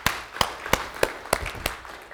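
Applause from a church audience cheering for moms during a morning service before worship, heard as six sharp, evenly spaced claps about a third of a second apart over a soft, steady hiss. No voices or cheering stand out.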